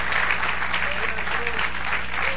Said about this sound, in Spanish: Dale el aplauso al Señor. Aleluya. Amén. Gloria a Dios. Amén, amén, amén, amén. Ponte en pie y sigue dando aplauso al Señor.